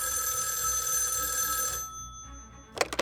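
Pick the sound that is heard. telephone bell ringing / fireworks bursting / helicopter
telephone bell ringing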